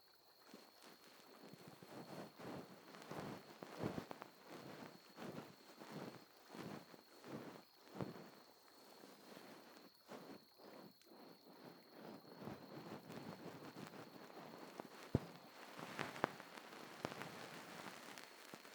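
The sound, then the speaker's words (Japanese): Soft, fluffy rubbing of a bonten (ear-pick fluff) during ear cleaning, repeated brushing strokes in a slow, steady rhythm with gentle scratchy rustles and a faint constant hum behind, no talking. “やっぱ梵天の気持ちよさは一味違うみたいだね。”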